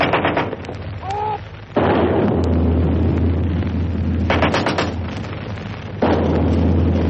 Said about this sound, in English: I'm now watching and hearing outgoing fire from the Palestinians towards where the Israeli positions are. There's another one just going off.